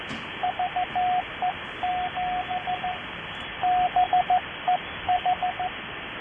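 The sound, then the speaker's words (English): A steady single-pitched Morse code (CW) tone keys out short dits and longer dahs in rhythmic groups, with brief pauses between them, over a constant radio hiss. “Who is the CW station?”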